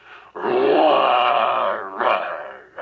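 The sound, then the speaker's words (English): A great, big, ferocious-looking lion growls: one long, loud, rumbling snarl lasting over a second, followed by two shorter, rougher growls. No one speaks. “One day, he was taking a walk in the wilds, and he came upon a great, big, ferocious-looking lion.”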